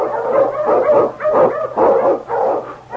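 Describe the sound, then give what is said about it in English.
King, a Malamute sled dog and Eskimo lead dog from The Challenge of the Yukon, barks loudly, a quick series of about five throaty barks with yipping, whining edges, repeated in a steady rhythm with no voices. “Come, you Malamute!”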